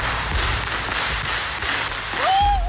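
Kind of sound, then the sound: impact, whips cracking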